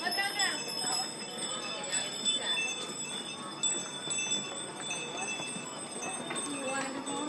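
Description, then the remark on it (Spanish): A group of donkeys pass by at a spot far from Fira, hooves clip-clopping while the donkeys' many small bells jingle and tinkle continuously; voices murmur faintly in the background. “Esos son los burros. Las campanillas de los burros. Están pasando por aquí todos ahora mismo.”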